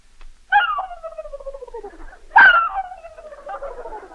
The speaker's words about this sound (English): A turkey.